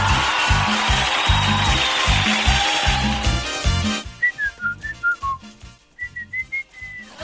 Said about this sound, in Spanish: Bueno, comenzaron a silbar, pero lo que pasa es que hay personas que no pueden silbar. Pero hay personas que pueden silbar de dos maneras, pero algunos pueden silbar, por ejemplo, cuando usted hace parar el colectivo